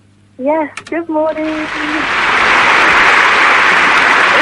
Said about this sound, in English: Yes, and the cheers have just gone crazy. There's just applause and applause coming through.